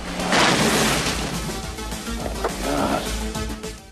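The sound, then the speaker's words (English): A vehicle smashes through metal gates with a loud, grinding crash over a low engine rumble, followed by a second burst of clanking impact before the noise tails off. “They drive through the metal gates.”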